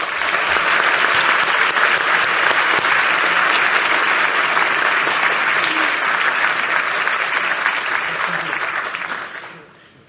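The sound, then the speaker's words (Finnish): Sustained applause from a sizable audience at an award ceremony of the Jyväskylä University Foundation, given for the absent award recipient Martti Kari. Dense and steady clapping lasts for about nine seconds before quickly fading out at the end. “Martti Kari on ulkomaanmatkan vuoksi estynyt noutamaan palkintoaan, joten annetaan hänelle aplodit.”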